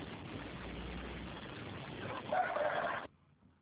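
neighbor's roosters crowing

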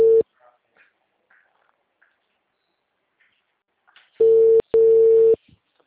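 telephone call tone

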